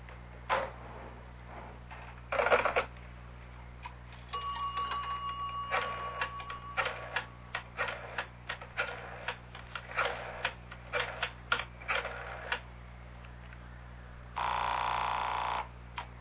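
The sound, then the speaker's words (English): A telephone is dialed in a phone booth at the back of a candy store: a clatter, then a steady dial tone followed by a run of short clicking bursts as the number goes in, ending with a longer buzzing burst. No talking. “You got a phone booth? Right in the back.”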